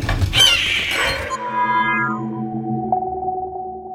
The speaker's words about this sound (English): Because there's a hawk inside my house right now, and it's incredible. It's just so majestic.